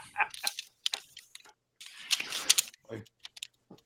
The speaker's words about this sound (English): My headset is picking up every turning of every paper. Yeah, it must have a different noise gate settings.